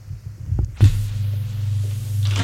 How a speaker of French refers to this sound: Il marche jusqu'à la porte du bout. Qui est un ascenseur. Il le prend. Son bruit résonne dans la tête.